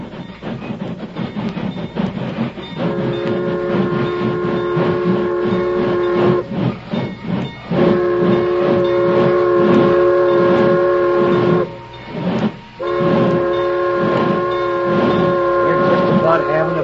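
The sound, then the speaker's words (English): A train rolls by, slowing to a stop at logs blocking the rail, its heavy rhythmic chugging and clatter punctuated by three long, loud steam-whistle blasts with brief gaps between them. “Keep out of sight, you fellas, till the train stops.”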